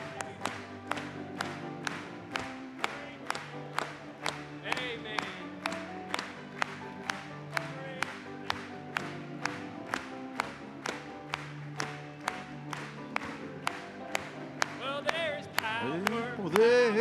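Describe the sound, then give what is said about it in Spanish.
An audience claps together in a steady beat, about two claps per second, loud, keeping time with the music and singing voices of a Spanish-language hymn throughout, with the noise swelling briefly near the end. “Vamos a aplaudirle.”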